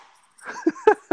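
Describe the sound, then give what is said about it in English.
Three short, voiced sneezes follow one another in quick succession, each a sharp burst, the second and third louder than the first, with no talking around them. “Sorry. Bless you.”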